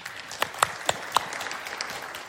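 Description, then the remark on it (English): A scattered round of clapping from a church audience, asked to clap for how much they like receiving gifts, with a few sharper claps standing out over a soft, continuous patter of many hands, fading slightly toward the end. “So first it is, how many of you like to receive a gift? Will you clap?”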